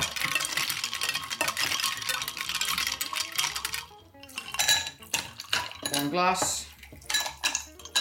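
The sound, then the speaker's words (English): Loads of ice cubes clink and rattle steadily against a glass jug as they are stirred into a drink of juice and Cointreau until the jug goes cold, a bright continuous jangle that breaks into sharper, separate clinks toward the end, with a voice briefly audible. “And then you put loads of ice in. Stir it. Until it goes cold on the side of the vase or vase jug.”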